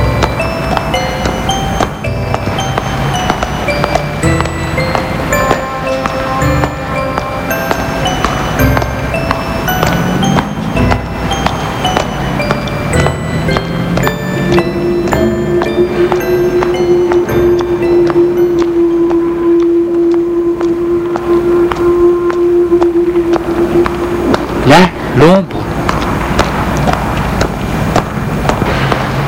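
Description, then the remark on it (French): Busy city riverside ambience on the quays of the Seine, with a constant dense rumble of traffic and scattered sharp noises, and a long, steady low horn blast sounding midway before fading out. “Ils traversent les quais de Seine.”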